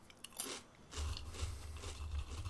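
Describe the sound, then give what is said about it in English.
Crunching of a crunchy snack being chewed, a steady run of crisp, brittle bites with muffled jaw thumps underneath, no talking. “All this crunching is making me really want Chex Mix.”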